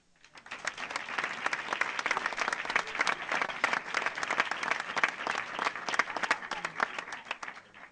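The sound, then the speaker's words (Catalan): An audience at the inauguration ceremony of the Casa Llabassa holiday camp house in Durro applauds steadily for several seconds, a dense crackle of many hands clapping at once, building quickly and holding an even, lively level without any talking over it. “Amb aquest aplaudiment acabem la part més institucional de l'acte”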